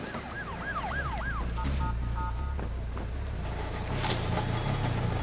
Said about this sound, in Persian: دو تا آمبولانس دارن پشت سر هم میان.